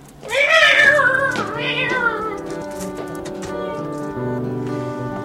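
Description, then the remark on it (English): Sixteen cats meow inside a bag, loud, drawn-out wails overlapping one another, with a sustained chorus of cries continuing steadily to the end and no one talking. “I've got 16 of the buggers in this bag. See, if you don't mind, I can't chat all day. These cats won't fling themselves.”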